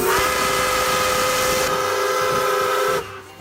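A steam train whistle blows one long, loud, steady blast over a rushing hiss of steam, holding for about three seconds before cutting off sharply.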